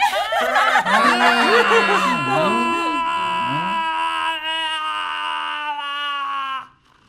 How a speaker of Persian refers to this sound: هیچی، فقط داشتم خوشحالی میکردم. اون جیغ خوشحالیت بود؟